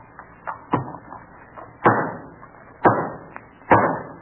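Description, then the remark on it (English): A hammer drives the final nail into a new state house: a few light taps, then three heavy, ringing blows about a second apart, each sharp strike trailing off briefly. No one speaks. “When this nail is home, the new state house will be ready for the legislature.”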